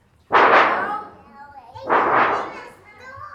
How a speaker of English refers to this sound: This is usually called a thunder sheet, and people hear it like. That's usually the way it's played. Does it sound like thunder to you?